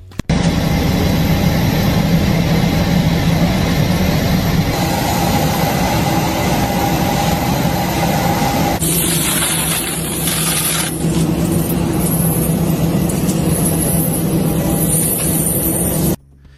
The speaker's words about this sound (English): So those were, well, what they called it was ASMR illegal alien deportation flight. Oh, it was no the sound of the jet.